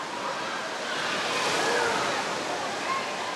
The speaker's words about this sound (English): They've got 15 minutes a wave in the wave pool, and then they open up the water slide for 15 minutes and kind of go back and forth. If the weather is good or bad, it doesn't matter. We're inside.